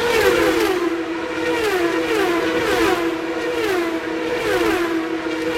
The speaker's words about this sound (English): We're right by the shores of the Pacific Ocean. For 362 days a year, the travelers go down the street and use it as major thoroughfares. And for 3 days, it turns into a high-speed street race in downtown Long Beach, California.